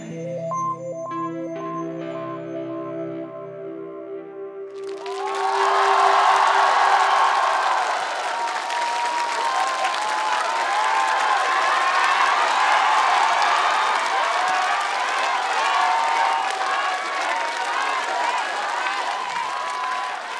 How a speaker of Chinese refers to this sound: 谢谢。也希望大家把掌声给我们的吉他手